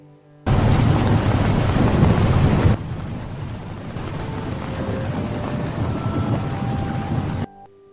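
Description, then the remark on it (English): Heavy rain pours steadily, with a loud rumbling surge of thunder in the first couple of seconds before settling into a constant downpour; no one speaks. “It was raining and he was tired.”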